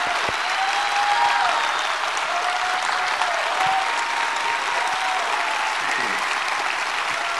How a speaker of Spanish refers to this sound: Esta va a ser una keynote larga, ¿eh? Thank you. Sí, sí. Solo por aplausos va a ser larga.